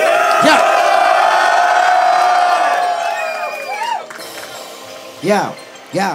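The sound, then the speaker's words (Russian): A loud crowd roars and cheers with scattered shouts and whoops, the noise dense and sustained before thinning out, then a couple of sharp rising yells burst out near the end. “Диджей, мочи первый бит. Поехали, дайте шуму.”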